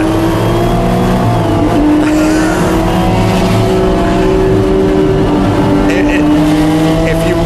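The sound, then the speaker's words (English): Loud, steady race car engines drone together, their pitch holding level with slight wavering, as a pack of cars, including a Sunoco car and a Porsche RSR, rolls along slowly in first gear at the start of a race before picking up. “Everyone comes around real slow. And you'll see him in first gear, and third gear started to give out a little.”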